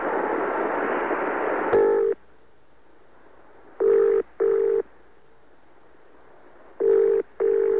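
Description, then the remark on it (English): After a burst of hissing noise, a telephone rings in the classic double pattern: pairs of short, buzzy, mid-pitched trills separated by silent pauses, with no voices. “Can someone get that phone?”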